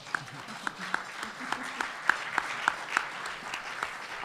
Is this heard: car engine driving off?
no